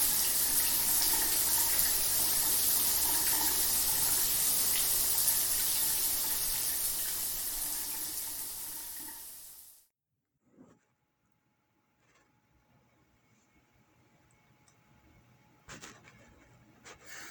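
shower water running

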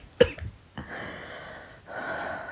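coughing

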